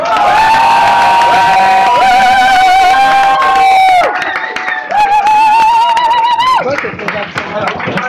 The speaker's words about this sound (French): Mesdames, messieurs, nous avons des traditions. Quand quelqu'un fait une goguette pour la première fois, on l'applaudit deux fois plus fort, c'est lié.